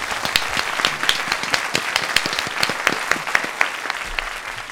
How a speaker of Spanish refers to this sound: Un aplauso para todos, por favor.